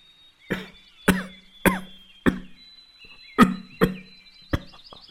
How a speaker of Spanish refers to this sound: … tose varias veces.